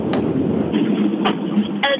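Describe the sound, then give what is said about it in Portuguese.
A steady, broad roar of an airplane flying overhead at the Rotunda do Relógio roundabout, with low rumbling and hissy wash, mixed with street traffic noise and a few short sharp clicks or toots. “Sabes porque é que se nota que estou na rotunda do relógio? Ouve-se o avião.”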